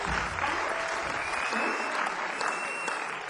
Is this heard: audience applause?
yes